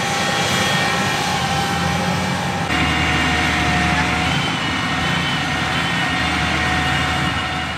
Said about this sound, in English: Hear that? That's an 8R autonomous farm tractor from John Deere, the world's largest supplier of farm equipment. A farmer can operate the 28,000-pound monster robot using a cell phone from his breakfast table.